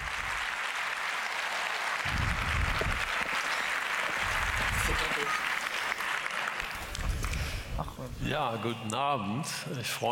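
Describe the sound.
An audience claps steadily in a dense, even wash of applause for about eight seconds to welcome the speaker of a talk on whether democracy is still salvageable, then the clapping thins as a single voice begins speaking over its tail.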